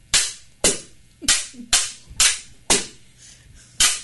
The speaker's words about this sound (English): we are in the studio live with members of Five Rings Fencing who are actually doing a little bit of sword fighting right here in the studio, doing a practice drill with old-style cavalry sabers.